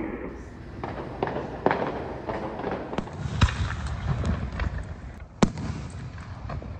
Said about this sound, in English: So have I. Loud, unexplained booms that can go well into the night. A lot of them sound like fireworks, but some kinda don't.